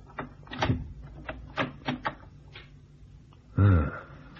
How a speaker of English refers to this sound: And now's my chance to try the door handle.